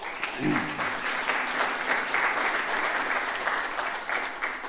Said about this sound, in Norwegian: Så skal jeg klappe for den sjef.